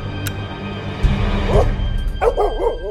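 A huge dog barks a few times in quick succession in the dark, then lets out several rising, whining whimpers, with a low rumbling background throughout.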